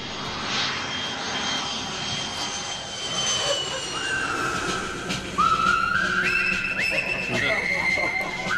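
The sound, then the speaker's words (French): A jet airplane engine roars steadily, its broad rushing noise joined midway by high whining tones that climb in stages as the engine spools up, growing louder toward the end. “Allez hop, prends ma valise, nous avons un avion à prendre.”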